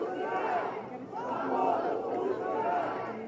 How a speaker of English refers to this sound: Outside, much of the crowd also reacted angrily.